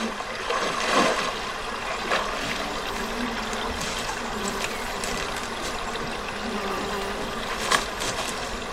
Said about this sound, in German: Also da passiert wahnsinnig viel, wenn man das hört. Man hört Wasser, man hört Laufen auf dem eher trockenen Gras.